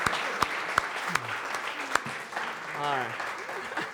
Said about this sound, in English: All right, a big round of applause for our volunteers here.